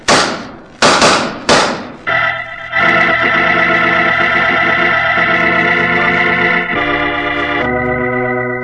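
exchange of gunshots

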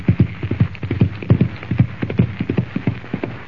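horse hooves galloping away

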